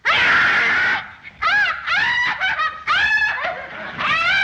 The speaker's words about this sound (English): The parts where she's not screaming her stupid head off, she's a great actress. But that constant screaming, I had to mute my TV.